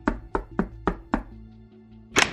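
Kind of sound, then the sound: impact, knocking on a door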